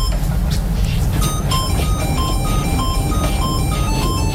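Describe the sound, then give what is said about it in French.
A tinny, beeping electronic melody played on several musical greeting cards as a cover of a pop tune, with short bright notes repeating in a steady rhythm over a constant low rumble. “Ils l'ont créé avec des cartes de vœux complètement, de façon complètement improbable.”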